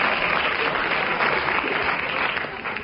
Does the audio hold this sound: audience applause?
yes